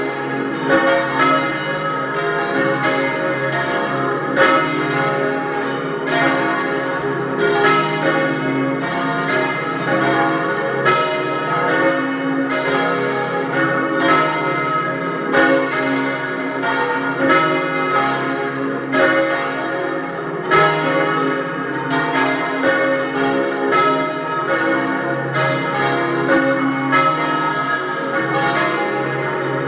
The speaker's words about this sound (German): Es ist 12 Uhr. Sie hören die Glocken der Pfarrkirche zum heiligen Martin in Dölsach bei Lienz in Osttirol.